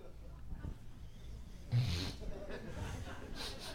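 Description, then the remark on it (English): A person makes a quick, nasal sniffling sound, imitating a sniffle, followed by a few softer breathy sniffs against a quiet, low background. “I was trying to make a sniffling sound, not a cocaine sound.”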